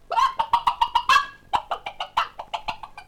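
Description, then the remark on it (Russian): A hen clucks in quick, rhythmic bursts in a chicken coop, two rapid runs of sharp clucks separated by a brief pause, clear with no voices. “И курочка даже моргнуть не успела, как очутилась в королевском курятнике.”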